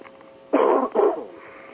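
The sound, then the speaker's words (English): Two quick, harsh coughs in close succession, fairly loud, with a brief pause between them and no talking around them. “Get all these coughs out when I'm off the air.”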